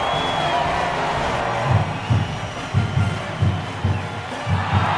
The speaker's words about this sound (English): And here comes the Union, wearing their away jerseys. A lot of jeers and curses as the Confederate fans try to drown out the cheers of the Union fans, who, of course, are waving their towels.